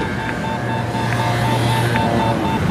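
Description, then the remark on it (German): An acoustic pedestrian crossing signal for blind people, set off by pressing a button on a yellow box, clicks steadily about once a second to show when the street is clear to cross, over a constant rumble of street traffic, with a low engine drone and faint tonal hum underneath. “Dann gibt es ein akustisches Signal für ihn, wann die Straße frei ist, wann er überqueren kann.”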